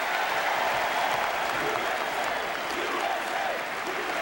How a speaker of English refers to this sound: The crowd roared its support as the night built to the main event, President Barack Obama.